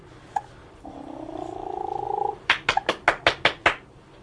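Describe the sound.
A person makes a sustained rolling purr with the voice for over a second, then claps sharply seven times in a quick, steady rhythm to get a baby to look up.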